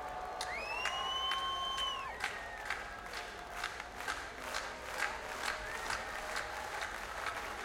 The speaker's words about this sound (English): Come on, y'all, put your hands together. Clap your hands for me like this.